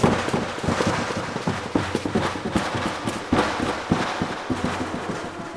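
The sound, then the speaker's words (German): Pirates fire their ship's cannons at the head of a monster: a rapid barrage of dozens of sharp overlapping bangs blending into a dense, roaring rumble that stays loud and chaotic throughout, with no voices. “Die Piraten schossen aus allen Rohren, was das Zeug hielt, genau auf den Kopf des fürchterlichen Ungeheuers.”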